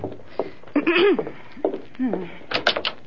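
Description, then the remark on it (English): A few quick, sharp knocks on a door, about three raps close together, come near the end after some brief murmured voices. “Oh, there's someone at the door.”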